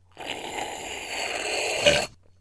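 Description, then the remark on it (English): A long, raspy burp rumbles for about two seconds, staying fairly steady and loud before a brief louder swell at the end and a sudden stop. No one speaks over it. “And I wish it was recorded because I feel like it like outdid that burp, you know?”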